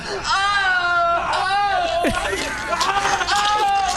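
A man screams in loud, high-pitched, strained wails, several drawn-out bursts with wavering, sliding pitch that run almost continuously with only brief breaks.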